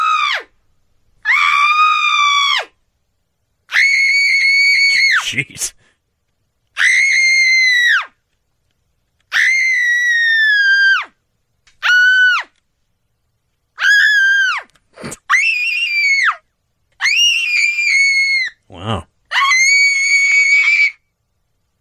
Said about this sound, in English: All right. So we heard Screaming Man. And we're going to close out with that, too, when we finish this up. But here's Screaming Woman.